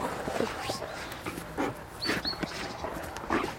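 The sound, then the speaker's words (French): A working dog whimpers softly in short, high whines mixed with light panting, with its owner's voice murmuring underneath. “C'est mon binôme de travail. Hein, grosse patate. Oh bah oui.”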